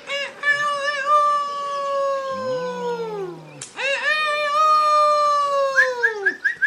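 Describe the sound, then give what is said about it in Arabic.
A rooster crows twice in long, drawn-out calls, each holding a steady, strident pitch before sagging downward at the end, loud, with only a brief gap between them. “أنت سعيد جدا هذا اليوم أيها الديك. نعم، أنا سعيد جدا. أسمعنا قليلا من صوتك الجميل.”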